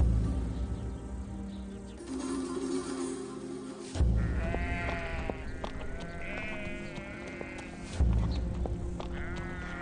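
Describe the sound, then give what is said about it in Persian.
Sheep bleat repeatedly in wavering, nasal calls, several animals overlapping, with a low rumbling background throughout; no one speaks. “ای گوسفندان من، وقت آن است که به خانه بازگرد.”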